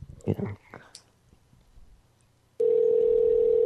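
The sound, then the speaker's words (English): A few faint murmurs and clicks, then a loud, steady telephone tone starts abruptly after the called person picks up, hits a touch tone and hangs up; it holds unbroken to the end, a flat electronic hum on the line. “No, she picked up and hit a touch tone and then hung up.”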